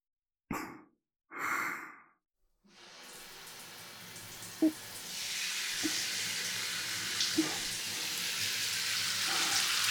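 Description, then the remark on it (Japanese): Two soft breathy exhales come first, then a shower starts spraying on the back of a customer's neck as a staff member washes them, a steady hiss that grows brighter and continues to the end, with a few faint taps underneath. “どうでしょう、シャワー熱くないですか？”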